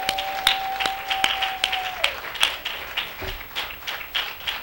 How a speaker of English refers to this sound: And thank you for these wonderful men. And I think they need a round of applause.